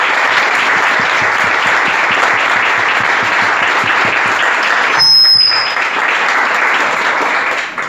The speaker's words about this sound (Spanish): a todas, un aplauso para todas.